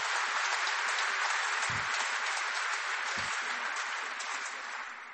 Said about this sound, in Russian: Вот, там живой концерт. Я слышала аплодисменты, а там как раз живой концерт записан.